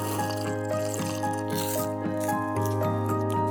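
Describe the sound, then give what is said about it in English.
Wet, squishy slurping and chomping from a monster repeats in a quick, steady rhythm over a continuous low droning tone, with no talking. “It's mostly slurping and chomping.”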